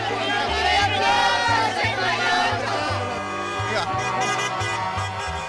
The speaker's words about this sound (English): Soon, the entire town was congregating in the plaza. People chanted their winning number as cars drove through the streets honking their horns.